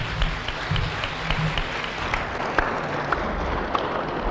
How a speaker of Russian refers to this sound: Что ж, эти аплодисменты объяснят ему наши теплые чувства.